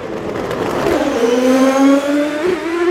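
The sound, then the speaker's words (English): Loud sports car engines, Ferraris and Porsches, roar and rev continuously, their pitch dipping and climbing as cars pass by on a roughly 2-mile circuit lined with concrete blocks and fencing, with no voices heard. “sports cars, Ferraris and Porsches in a different race”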